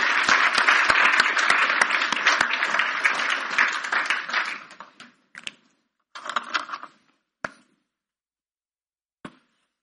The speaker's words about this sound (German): Vielen Dank und noch einen Applaus für euch drei.